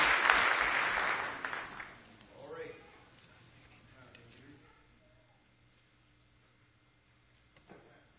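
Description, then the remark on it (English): An audience claps together in praise of God in a loud, dense burst that fades out within a couple of seconds, followed by a voice speaking quietly over a low hum. “Give Him one more hand clap of praise tonight if you love Him.”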